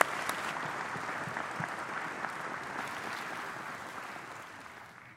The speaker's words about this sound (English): Would you welcome with a warm applause